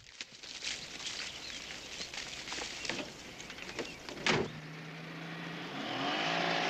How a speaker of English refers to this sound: Glancing nervously toward the road, Clyde ushers Bonnie back to the car and into the passenger seat. They drive away.